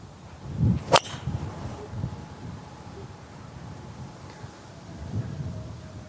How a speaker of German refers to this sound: Der war perfekt. Ich bin selber überrascht. Das war wirklich genau der perfekte Schlag. Mitte Fairway.